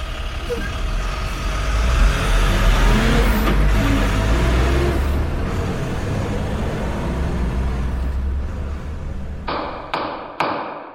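A heavy truck engine rumbles loudly and steadily, rising as it pulls away, with a few sharp knocks near the end. No one speaks.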